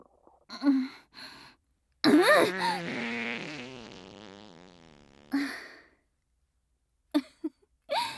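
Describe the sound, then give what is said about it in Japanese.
A long, drawn-out fart with a wavering, buzzy tone that rumbles for about three seconds before trailing off, framed by a few short, soft bursts before and after. “失礼、放屁させていただきました。”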